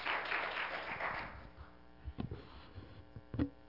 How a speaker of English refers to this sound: Give the Lord a hand clap of praise if you would.